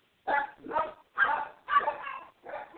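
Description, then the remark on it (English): Dogs bark at night in a quick series of five sharp, mid-pitched barks with short gaps between them, fairly loud and with no talking over them. “Sorry, the dogs are barking again tonight, as usual.”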